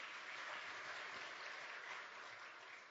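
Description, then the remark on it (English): A church audience applauds steadily, a dense wash of many hands clapping at once that stays strong throughout and eases only slightly at the end. “And I would like to extend my thanks to my fellow pastors and the congregation who support me with great, applause.”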